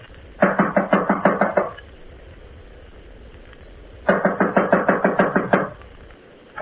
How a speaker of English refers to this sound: This is it. I'll knock.